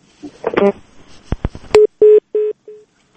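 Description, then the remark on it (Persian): A brief garbled burst of voice and a few sharp clicks as a phone call with Kabul police chief Ayub Salangi drops, giving way to four steady electronic telephone beeps, evenly spaced and fairly loud, the last one shorter and softer. “بله، تماس تلفنی ما با تأسف با ایوب سالنگی قماندان امنیه کابل قطع شد.”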